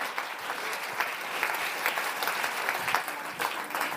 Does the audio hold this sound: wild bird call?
no